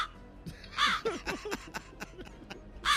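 Two harsh, raspy crow caws ring out loud, one near the start and one at the end, with quieter murmuring voices in between.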